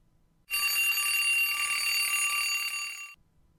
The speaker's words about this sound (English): It is 7 in the morning. It is 7 a.m. 7 in the morning, and the alarm clock is ringing.